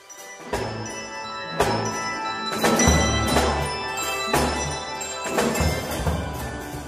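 Handbells played by a group ring out a bouncy swing tune, with bright struck chords landing on a steady beat and shimmering tones sustaining between hits, fairly loud with no voices.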